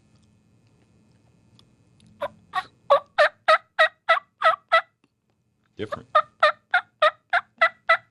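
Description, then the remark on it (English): A mouth diaphragm turkey call, turned upside down to give a clear rather than raspy tone, gives clear, evenly spaced yelps in two quick runs of about ten notes each, loud and ringing, with a short pause between runs and a brief spoken word beforehand. “Now I can turn it upside down, same call, and go with the clear call with it.”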